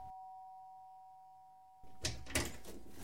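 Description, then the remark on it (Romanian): A doorbell rings with a steady electronic tone for almost two seconds, followed by louder clattering and rustling noises, like a door being opened. “Sună cineva la ușă.”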